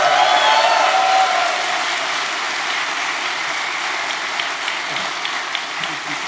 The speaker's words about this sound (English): Please make some noise for the GTV hackers hacking all the things.